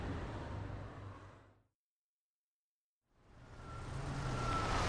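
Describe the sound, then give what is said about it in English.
A bus engine rumbles and fades out, then after a brief silence a bus approaches, its low engine growl and a faint high whine growing steadily louder. “That's my bus.”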